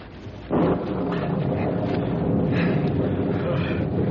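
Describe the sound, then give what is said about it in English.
A storm rises suddenly after a quieter moment: a loud, steady roar of wind and pouring rain with deep rumbling underneath, continuing without a break to the end. “Storm's about on us.”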